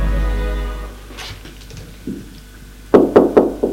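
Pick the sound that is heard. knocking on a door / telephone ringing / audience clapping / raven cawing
knocking on a door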